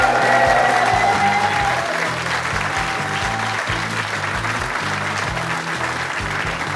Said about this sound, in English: Thank you to our audience, everyone on staff who put together this amazing show, and of course, the Hippodrome Casino for making it happen. Round of applause for all those folks.